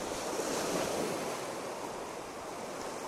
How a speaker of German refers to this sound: Ich habe Sand in den Schuhen. Ich stehe hier am Strand. Ich schaue auf die Wellen. Ich bin ganz gebannt von der Weite und Tiefe, die hier vor mir liegt. Der Wind ist freundlich heute.